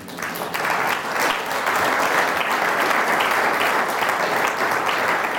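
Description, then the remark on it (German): A church audience applauds steadily during a service, a dense crackle of many hands clapping at a constant, fairly loud level throughout, with no one speaking over it. “Also dir vielen Dank für deinen treuen Dienst und das ist auch mal ein Applaus wert.”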